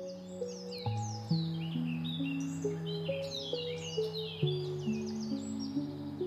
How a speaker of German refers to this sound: Vielleicht legst du dich einfach auf die Erde und lauschst den Vögeln.